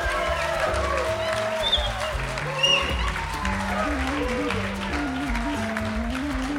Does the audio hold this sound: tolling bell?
no